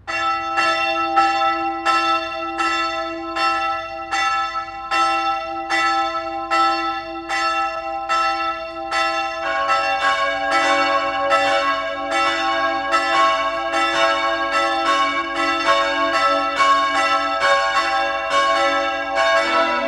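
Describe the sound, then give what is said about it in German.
The bells of the parish church of St. Francis of Assisi in Lannach, Styria, ring at 12 o'clock noon, steadily and loudly with no voices, a single bell's regular strokes joined midway by more bells into a fuller, overlapping peal. “Sie hören die Glocken der Pfarrkirche zum heiligen Franz von Assisi in Lannach in der Steiermark.”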